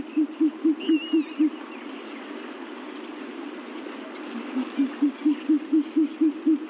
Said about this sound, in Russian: Это сова. Сова болотная.